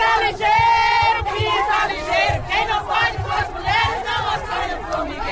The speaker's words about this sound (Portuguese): A gente está vindo do estado de Alagoas para essa marcha, lutar por direito e igualdade contra a violência e todos os direitos que a gente mulheres estão necessitando. Com gritos de ordem.